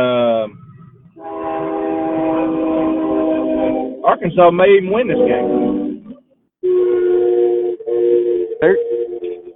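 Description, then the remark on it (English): The Waldenburg train sounds its horn in long, loud blasts, several in succession with short breaks, about to cross 64, the rumble of the passing train underneath while a man talks over it. “The world's got the train going through.”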